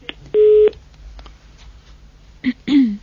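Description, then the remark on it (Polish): A single steady telephone line tone sounds for about a third of a second as a listener's call connects to a Radio Maryja phone-in, followed by quiet line hiss and a brief voice near the end. “Odbieramy kolejny telefon.”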